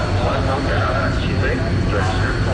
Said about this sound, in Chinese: 早上7点，随着塔台指挥员一声令下，南部战区海军航空兵某部多架飞机接续升空，穿破雨幕飞向指定空域。